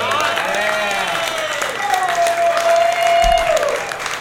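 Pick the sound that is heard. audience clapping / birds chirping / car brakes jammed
audience clapping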